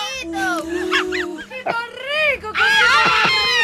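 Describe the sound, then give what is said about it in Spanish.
A crowd of people shouting and yelling over one another, loud, with many overlapping raised voices forming a continuous clamor that swells again near the end. “Pues no escucha lo que dice la gente, mire.”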